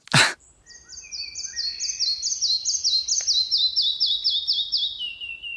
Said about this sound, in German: Ein Schnepper? Ja, also rhythmisches Auf und Ab und nach hinten so eine abfallende Folge langsamer Töne.